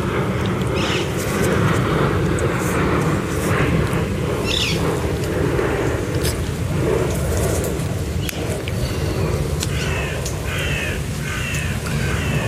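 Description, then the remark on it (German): A steady, rumbling drone of an airplane passing overhead fills the whole stretch, while birds call and chirp over it now and then. “jetzt liegt da ein Flugzeug über mir und versucht, den Vögeln Konkurrenz zu machen.”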